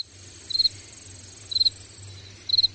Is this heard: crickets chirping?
yes